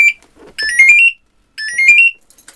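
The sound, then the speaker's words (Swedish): A smoke diver's breathing-apparatus inactivity alarm sounds loud, two bursts of shrill electronic chirps climbing rapidly in pitch, separated by a brief silence, with no talking. It alerts colleagues when a firefighter stays still a long time in a smoke-filled environment. “Och det som piper där, om jag nu skrämde er här, det är vårt inaktivitetslarm.”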